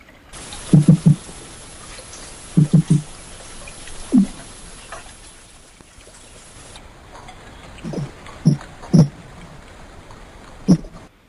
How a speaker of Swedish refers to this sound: Det här programmet handlar ju ganska mycket om ljud under vattnet. Och jag tänkte vi kan lyssna på hur malen låter. Det tycker jag vi ska göra.